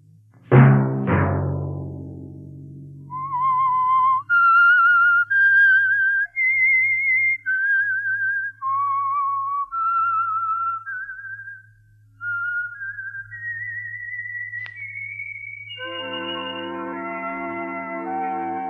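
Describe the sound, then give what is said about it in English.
The whistled theme tune of the radio program The Whistler: a lone whistled melody of sustained, sliding notes rises and falls over a low humming drone, opened by two sharp struck tones and closing as fuller instrumental chords swell in. “Let that whistle be your signal for the Signal Oil program, The Whistler, each Sunday night at this same time.”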